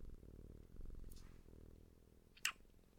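A sleeping cat curled up in its owner's arms snores softly, a steady low rumbling breath that continues throughout, with a brief faint rustle or click near the end and no talking.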